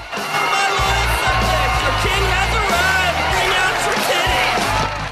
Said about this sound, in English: The crowd cheer as he rubs his nipples.